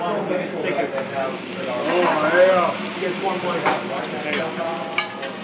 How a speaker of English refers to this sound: He's frying something. Yeah, he's trying to make something here.